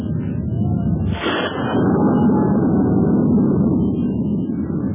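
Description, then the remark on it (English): A steady, loud roar of wind blowing around an old castle, with a faint hollow whistle running through it and a brief rushing gust about a second in. “It's cold in this old castle. That wind's bad.”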